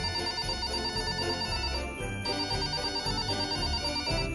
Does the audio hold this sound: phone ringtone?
yes